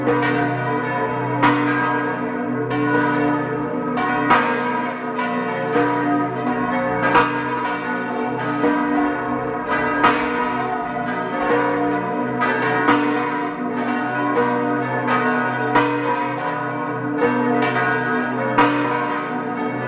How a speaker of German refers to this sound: Es ist 12 Uhr. Sie hören die Glocken der Pfarrkirche zur heiligen Barbara in Fliers in Tirol.